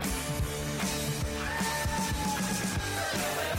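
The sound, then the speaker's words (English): Loud, busy music of a radio show bumper with a strained, sustained scream or yell rising over it about halfway through, held to the end and fairly thin against the music. “Is it just me, or did that screaming, that yelling sound a little weak?”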